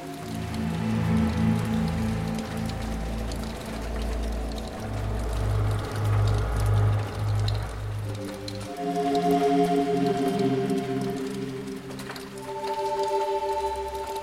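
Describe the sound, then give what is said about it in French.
Steady rain patters continuously throughout, mixed with loud sustained musical tones and low droning chords that shift partway through; no one speaks. “Rue Jules Chéré, rue Schubert, rue de Terre-Neuve, pleut, pleut.”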